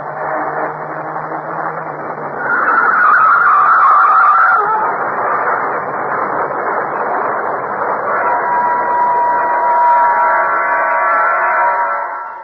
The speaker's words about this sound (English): Look out, Sam. A truck. Turn the wheel. Go off the road.